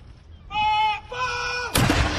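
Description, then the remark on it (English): A single loud ceremonial cannon shot from a 96-gun salute at London's Hyde Park in the morning, one shot for every year of Queen Elizabeth's life, booms near the end, its blast rolling on through the last moments, preceded by two sustained tonal calls, like shouted commands or a bugle. “A 96 gun salute.”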